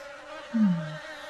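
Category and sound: insect, bees buzzing around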